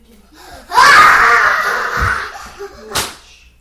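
A child lets out a loud, shrill scream that holds for nearly two seconds and then trails off, followed moments later by a single sharp smacking sound.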